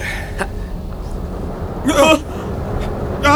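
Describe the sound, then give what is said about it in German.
A deep, continuous earthquake rumble fills the whole stretch, heavy, on a sandy road winding up a hill near Whitechurch, with a couple of short startled vocal outbursts rising over it near the middle and end. “Oh, ein Erdbeben.”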